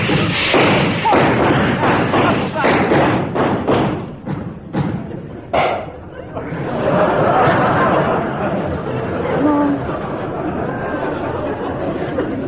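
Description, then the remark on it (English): A rapid series of muffled firecracker bangs from a cellar where firecrackers are being made thuds heavily through the first half, then fades into a dense murmur of indistinct voices. “That's only Father in the cellar. He's making firecrackers.”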